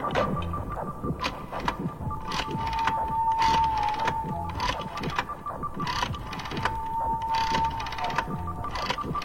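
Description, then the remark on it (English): A rotary telephone lifted from the hook and dialed at midnight: bursts of mechanical clicking and whirring as the dial turns and returns, repeated several times, with a steady tone humming faintly underneath and no one speaking. “Finally, it was midnight, and John lifted the phone from the hook and dialed the number.”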